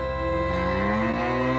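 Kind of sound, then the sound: animal, cow mooing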